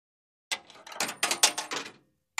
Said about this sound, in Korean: 자판기 앞에 도착하면 뒤꿈치를 들고 팔을 뻗어 투입구에 동전을 넣고 잔뜩 쌓여있는 올드골드 아래쪽에 손잡이를 당기고 커다란 기계 안에 있던 담뱃갑이 손잡이 아래 은색 홈통에 떨어지는 소리를 들었다.